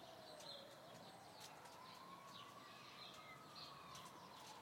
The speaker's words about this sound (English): When I hear blackbirds in the garden, it always reminds me of my childhood when I was about 4. And I think because they were the first bird I think I can ever remember hearing.